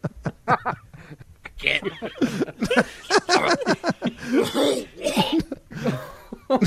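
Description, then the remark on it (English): A bout of harsh, repeated coughing comes in loud bursts, broken up by strained breaths and throat noises, with some laughter-like sounds mixed in. “is coughing up a lung.”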